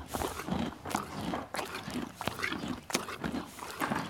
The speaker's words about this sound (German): Da schmeckt es Beppo und Rosina den beiden Eseln gleich noch besser.